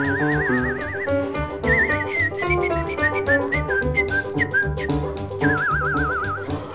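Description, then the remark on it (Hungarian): Someone whistles a bright, lilting melody with warbling vibrato on the held notes, clear and up front over a steady, rhythmic instrumental accompaniment that plays throughout. “Tetszik tudni, mi az, amit én itt fütyülészek?”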